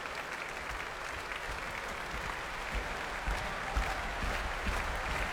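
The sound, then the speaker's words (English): A large audience in an arena claps hard and continuously as a pianist returns to the stage for an encore, a dense roar of applause with heavy foot-stamping thuds pounding underneath, steady and loud throughout with no talking. “And to stamping and heavy clapping from the arena, he's back on stage for an encore.”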